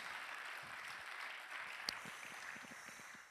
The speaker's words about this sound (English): And of course, this beautiful church and this beautiful staff and Pastor Schumacher for hosting this Elevate Rally. We're thankful for that. Amen. Can we clap our hands about that?